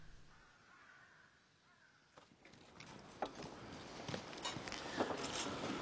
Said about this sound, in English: Flies, gadflies, gnats, carrion birds. More and more birds circle. High, high, higher.